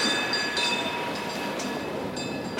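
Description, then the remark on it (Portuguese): A tram (bonde) rolling along its rails, a steady rumble with thin, high metallic whines ringing above it and a few brief brighter swells, with no voices. “Esfregue as vistas, turista, e se espantará como Bandeira ao tomar um bonde com o mestre.”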